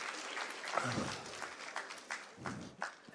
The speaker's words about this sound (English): Come on, round of applause for our volunteers.